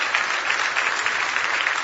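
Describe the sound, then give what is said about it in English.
A crowd claps steadily in the evening as praise to the Lord, a dense wash of many overlapping hand claps with no pauses, loud and sustained throughout and with no voices standing out. “Give the Lord another big hand clap of praise if you love him tonight.”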